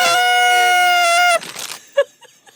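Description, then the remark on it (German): A single loud horn toot, a steady buzzy blare held for just over a second, then cut off, followed by faint rustling and a brief knock. “Ja, komm, wir tröten mal.”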